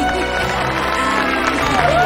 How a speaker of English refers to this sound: The audience stands and applauds.